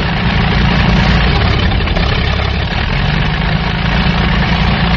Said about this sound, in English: At that point, a plane once again roared overhead as one of their friends... That's it. One of their friends roared over the diner in salute.